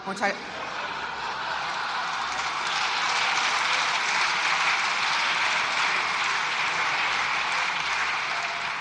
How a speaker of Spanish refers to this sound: El PP está de pie, la bancada, aplaudiéndole. Silencio. Silencio, por favor.